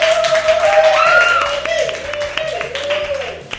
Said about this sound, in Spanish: Aprovechando su estancia en España, le hemos invitado a nuestro programa. Así que un fuerte aplauso a Mickey Mouse.